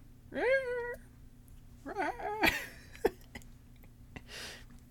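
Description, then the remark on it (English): A person imitates a cat's meow twice, first a high, sliding cry, then a wavering, strained one, followed by a couple of sharp clicks and a soft breathy exhale. “Oh, that wasn't a good meow.”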